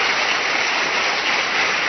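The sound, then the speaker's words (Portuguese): A church audience claps loudly and continuously for the Lord Jesus, a dense, steady wash of many hands with no individual claps standing out and no voices on top. “Aplauda ao Senhor Jesus bem forte, bem forte, bem forte, igreja.”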